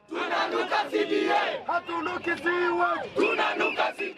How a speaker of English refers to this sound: Ululations then engulfed outside court as doctors shouted and chanted slogans demanding for the fulfillment of the agreement.